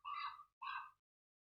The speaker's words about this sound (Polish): A ten głos, który słyszycie, to kruk.